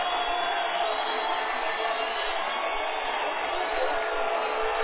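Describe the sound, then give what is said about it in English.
A dense, steady roar from the crowd at Martin Stadium on senior night during a football game, after a band warning: a continuous wash of cheering that holds at an even, loud level for about five seconds with no distinct voices standing out. “And here goes the crowd.”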